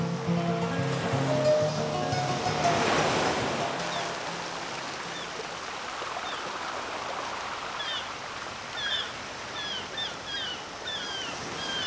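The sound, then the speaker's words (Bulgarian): Steady sea waves of the Mediterranean wash against the harbour of the island of Gozo in a continuous, moderately loud rush, with faint bird chirps later on; some tonal music fades out during the opening seconds. “Средиземно море, 1830 година. В пристанището на остров Гозо влиза малък риболовен кораб.”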